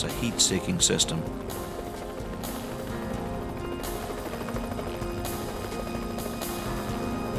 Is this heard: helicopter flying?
yes